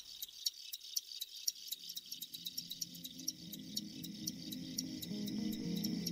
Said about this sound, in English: Like you take a field cricket, and they have the one call where they're repelling other males.